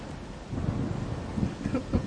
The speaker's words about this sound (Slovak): Aha, už to počujem. Rozmýšľam, že ktoré rádio naposledy, kedy vysielalo búrku? Toto je dobre. No. O, toto bol celkom pekný plesk.